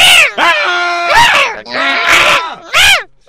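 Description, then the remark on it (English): A cat yowls and screeches in wavering, high-pitched cries broken by harsh, noisy hissing bursts, loud and agitated, repeated several times over a few seconds. “Oh, he's getting hissy.”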